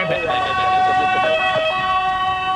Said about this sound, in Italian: Chiamiamo l'ambulanza, mandiamo l'ambulanza.